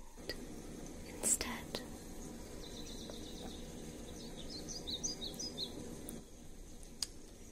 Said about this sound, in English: Quiet the rain, and louder bird sounds.